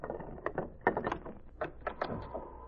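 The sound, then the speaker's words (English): A few sharp, hollow knocks land on the wooden door of Red Barnett's cabin in an uneven rhythm, followed by the rattle and creak of the door being opened. No one speaks. “Red Barnett made sure who was knocking before he opened the door of his cabin.”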